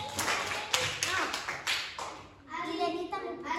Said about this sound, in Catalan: Molt bé. Un aplaudiment supergran